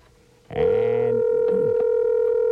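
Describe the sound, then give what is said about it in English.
A telephone line tone starts after a half-second of quiet and holds as a loud, steady, unbroken electronic hum through the end, with faint clicks and rustling underneath and no voices. “or continue with the massive gassive and let the phone ring.”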